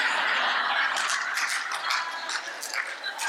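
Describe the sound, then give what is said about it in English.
A timer marking the end of the speaker's allotted time goes off with a continuous, buzzy rattling ring that stays loud and steady for about three seconds, with no one talking over it. “That's the timer that tells me when my time's up.”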